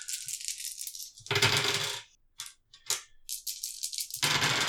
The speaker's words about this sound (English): That was two handfuls of dice for those at home.